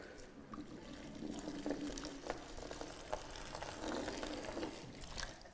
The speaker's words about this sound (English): So listen to this. I'm going to drench our burrows with water. Listening in. Can you hear this?